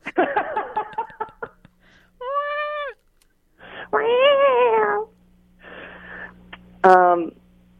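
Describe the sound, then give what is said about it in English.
A cat meows, three or four drawn-out, wavering cries with short pauses between them, following a burst of soft human chuckling at the start. “Yeah, thanks, kitty. Do you hear this?”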